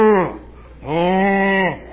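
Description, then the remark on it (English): A cow's moo sounds loud: the tail end of one call fades out, then after a short pause a second, longer moo holds steady before trailing off. “You got all these women up there like a bunch of cattle being herded in. They need to add sound effects like that.”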